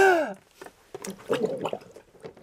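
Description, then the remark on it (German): A brief high, sliding squeal gives way to wet, bubbly gurgling and sputtering as a person has their head dunked under water up to the ears, the water burbling in irregular bursts. “Der Mischer röchelt schon. 1, 2. Aber er hat den Kopf bis zu den Ohren drin.”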